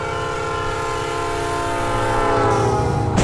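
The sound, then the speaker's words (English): A train horn blares in a long, loud, sustained chord over the deep rumble of a train passing over a level crossing, growing louder toward the end with a burst of rushing noise. “I thought we'd be perfectly safe on the level crossing!”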